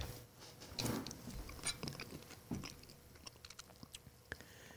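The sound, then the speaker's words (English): A man takes a big, juicy bite: wet crunching and chewing, with a burst of crisp crunches early on followed by softer, irregular mastication sounds and small clicks. “Here he goes. Big bite.”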